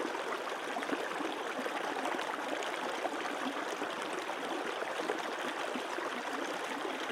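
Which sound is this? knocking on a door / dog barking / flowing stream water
flowing stream water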